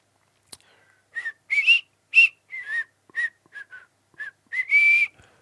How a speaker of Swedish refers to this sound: Ja, det är inte originalvisslar. Du tandvisslar du eller?